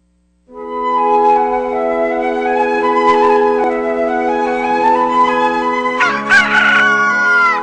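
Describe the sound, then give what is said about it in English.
A rooster crows loudly, one long drawn-out call that holds for several seconds and rises into a harsher, strained ending, with no other sounds around it. “Cock-a-doodle Dandy the Rooster here with a tip on how to keep your copper ornaments and fixtures clean and shining.”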